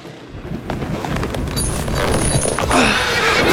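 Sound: horse whinnying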